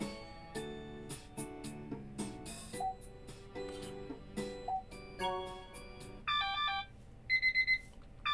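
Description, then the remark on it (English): An alarm clock rings with a bright electronic melody of chiming notes, then shifts to quick bursts of repeated high beeps near the end, loud with no voices. “It's ringing. The alarm, annoyingly, noisily ringing.”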